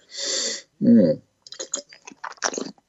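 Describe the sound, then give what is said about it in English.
An airy slurp draws in a sip of a 2015 Mackenzie River Pinot Noir wine, followed by a low gulp and a run of wet, clicking mouth sounds as the wine is swished around. No one speaks. “I'll have another sip.”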